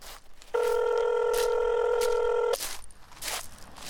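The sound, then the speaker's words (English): A telephone rings once with a steady electronic tone lasting about two seconds, clear and fairly loud against a faint hiss of background noise. “Listen to a phone call and choose true or false.”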